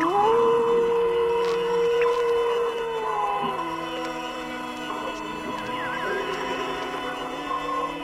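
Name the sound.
wolves howling in chorus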